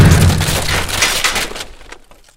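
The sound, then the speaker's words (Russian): In a Harry Potter story, a mighty blow smashes a door off its hinges: a loud, heavy wooden crash bursts out, followed by splintering and clattering debris that fades away within a couple of seconds. “Раздается могучий удар, и дверь слетает с петель.”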